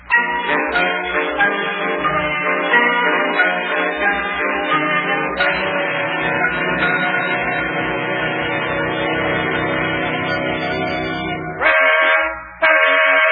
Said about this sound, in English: Oh, I'll bet that's Yuki in the wedding car honking the horn outside. Let me take a look out the window. Yeah, that's him.